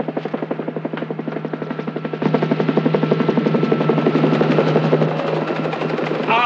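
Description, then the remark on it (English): A helicopter's rotor thumps in a fast, steady beat, growing louder partway through as it arrives and the engine whine rises, filling the scene with continuous heavy noise. “The chopper's here, sir.”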